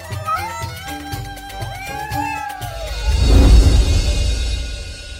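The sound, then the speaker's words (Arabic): Several cats meow in overlapping, rising and falling calls over a sustained musical backdrop, then a loud rushing swell of noise takes over and fades slowly. “إنها القطط البواسل.”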